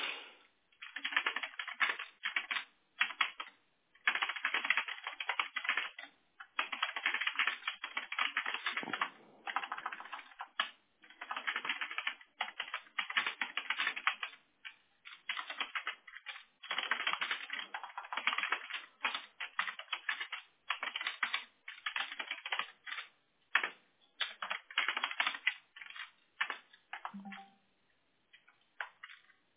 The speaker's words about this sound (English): You hear me typing like crazy?